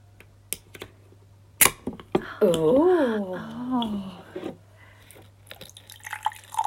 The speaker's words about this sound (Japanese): おー、あ、シュワシュワ。 はい、今私たちは チルアウト、 チルアウトね、サウナドリンクを 開けております。スーパーで買いました。